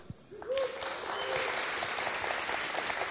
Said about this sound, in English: Thank you to the Fox always. Little round of applause.